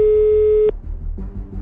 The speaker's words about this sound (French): Ça sonne.